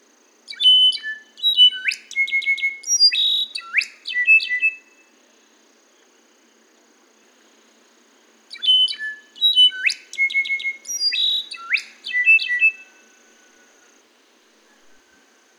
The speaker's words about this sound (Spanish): Cuando yo pregunté, porque andaba con un grupo de observadores de aves de Estados Unidos, les pregunté que cuál era ese ave, porque hizo un sonido muy parecido a una flauta. Y me comentaron que se trata del slate color solitaire.